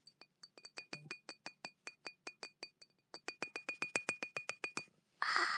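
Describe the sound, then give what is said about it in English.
A steady run of bright glass clinks, around two dozen light taps with a clear ringing tone, quickening toward the end before a short burst of rushing noise. No one speaks. “are doing glass triggers.”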